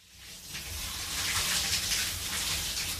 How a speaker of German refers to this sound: Erstmal duschen. Ich schlug die Bettdecke zurück und huschte ins Bad.